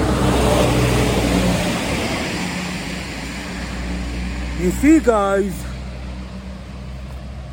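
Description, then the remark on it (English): A big truck rumbles past behind a man, its broad low roar loudest at first and slowly fading away, while he speaks briefly over it. “You see, big truck coming behind me.”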